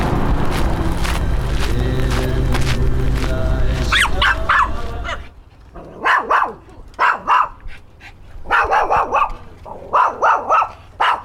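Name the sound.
dog barking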